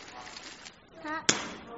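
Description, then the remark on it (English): A voice imitates a balloon popping: a brief rising vocal sound followed by one sharp, loud burst, then a quick fade, with faint murmuring in the background. “So if you had a balloon and it popped, what would it sound like?”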